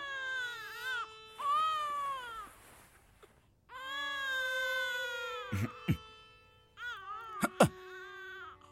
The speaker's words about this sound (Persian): خیلی سر و صدا میکنه. ببینم همه بچه ها انقدر زر زر گریه میکنن.